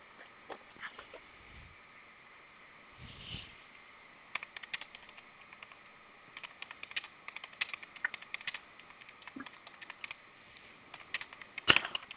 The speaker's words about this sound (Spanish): Presiona tres veces gato asterisco 1 en su teclado de alarmado, por favor.